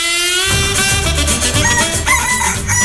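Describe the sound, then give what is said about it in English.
A large rooster named Speckled Pete, patrolling a farm, lets out a loud, drawn-out crow, its harsh, strained call rising and wavering over a steady rumble of background noise, with no voices present. “It was all because a large rooster named Speckled Pete was patrolling the farm.”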